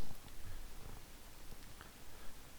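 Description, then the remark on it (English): A cat on a desk purrs, a low, steady rumbling drone that pulses gently with its breathing. It's fairly quiet, continuous throughout, and no one is speaking. “Doing this with a cat on the desk is very difficult.”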